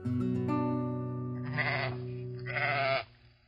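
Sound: sheep bleating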